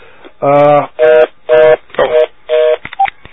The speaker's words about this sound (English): There's a phone going on.